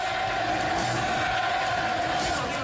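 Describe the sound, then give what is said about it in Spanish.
A dense, steady roar from a large football crowd, many voices merging into a continuous chant of Leo Messi's name, "Messi, Messi, Messi", with no breaks or quiet moments throughout. “Todo el mundo grita Messi, Messi, Messi, porque todo el barcelonismo aspira a que Leo Messi no se vaya del Barça y que continúe su carrera en el equipo blaugrana hasta que se retire.”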